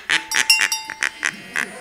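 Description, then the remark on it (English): A duck quacks repeatedly in a quick, uneven series of loud, nasal calls, about eight in under two seconds, with no other sounds. “That was obviously a duck.”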